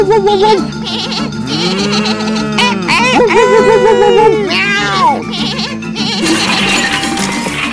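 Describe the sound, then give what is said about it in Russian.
A loud, crowded chorus of farm animal calls: a cat meowing, a dog barking, a goat bleating, a bull lowing and a rooster crowing, all overlapping continuously for several seconds. “Вот Джек подал знак, и тут же замяукал кот, залаяла собака, заблеяла коза, замычал бык и закукарекал петух.”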